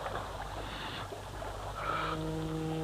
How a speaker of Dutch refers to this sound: Het is een boot. Echte waterboot. De kanjer van een boot. Het is wel makkelijk op zo'n riviertje.